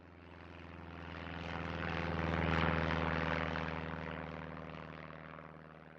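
A propeller airplane drones overhead, its steady engine hum swelling to a peak midway as it passes, then slowly fading away. No voices.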